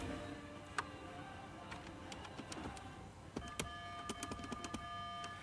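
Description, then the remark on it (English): A man quitting his job presses a phone's buttons several times in a Walmart store, sending short, sharp beeps and clicks over the store loudspeaker, irregularly spaced against a steady background hum, with a faint sustained tone near the end. “So he presses the phone button several times to make it beep over the loudspeaker first.”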